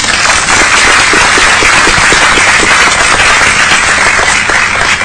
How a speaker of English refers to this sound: And applause for my young lady and her family.